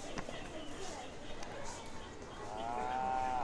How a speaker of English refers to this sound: It's a cow.